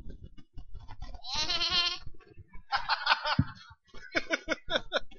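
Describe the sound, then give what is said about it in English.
A person mimics a sheep, letting out a long quavering bleat followed by shorter, shakier bleats and choppy giggly bursts, all fairly loud. “What did the sheep say?”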